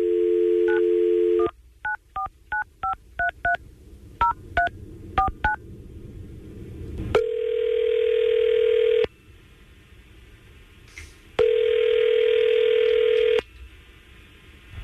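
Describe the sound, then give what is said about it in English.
A phone's dial tone gives way to a quick run of about eleven touch-tone keypad beeps, followed by two long, steady ringback tones separated by a pause, as the hosts of radio station 99.5 QIK place a call. No one speaks. “Well, let's try to call Kara and see if we can get her on the phone.”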